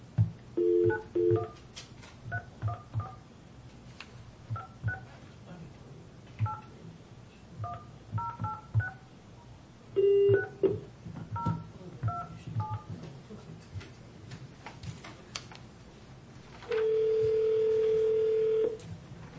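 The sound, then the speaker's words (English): A phone number written on paper being dialed on a touch-tone keypad, a quick series of paired beeps in uneven bursts, followed by a steady tone near the end. Clear, with no talking. “The phone number is the one I wrote on the paper for you.”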